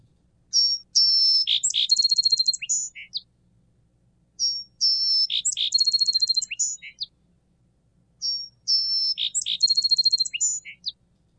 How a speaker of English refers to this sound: So you can tell, I think, even from that quick lesson, if you're a listener, that even though they're both song sparrows, there's quite a bit of difference in that.